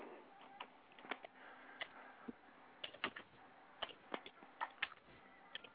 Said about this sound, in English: Who is peck typing?